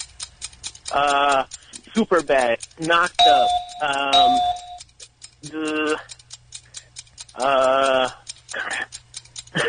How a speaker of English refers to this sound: I know it seems easy sometimes when you're listening, but when you're playing and you hear that 10-second clock, man, it's hard to come up with This Is the End or 21 Jump Street or Moneyball, Get Him to the Greek.